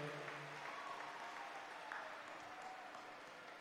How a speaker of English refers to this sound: So all your fellow students and faculty have put together quite a show. So a big round of applause for them.